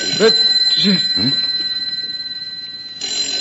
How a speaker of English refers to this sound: Well, listen. Am I hearing things? It's the phone